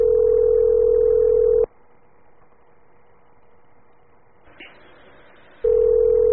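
A telephone ringback tone purrs loudly through the line: one steady buzzing ring, a long quiet pause of about four seconds, then the next ring beginning. No one speaks.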